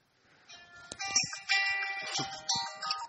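A mobile phone ringtone plays a bright, electronic melody in repeating bursts about once a second, fairly loud, with no one talking over it, ringing while its owner is teaching Sunday school.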